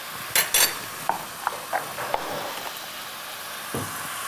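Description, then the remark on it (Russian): Potatoes and pumpkin sizzle and fry in a pot over high heat for soup as a utensil stirs them, with a few sharp scraping clacks early on over a steady hissing background, moderately loud. “Я добавляю сейчас картошку и тыкву. У нас все тут хорошо обжарилось.”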